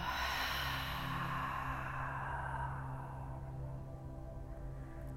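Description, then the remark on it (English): A long, breathy exhale drifts out slowly and steadily, airy, softening over several seconds like a deep relaxing sigh, during a guided breathing exercise. No one speaks. “Inhale, gather up your Monday, everything that's happened. And exhale, let it go.”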